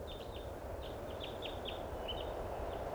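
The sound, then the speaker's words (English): A flock of around 20 birds calls in quick, irregular bursts of short, high chirps, about a dozen notes over a few seconds, fairly faint above a steady, loud background rumble. No one speaks. “Must be 20 birds. There's a bird right here.”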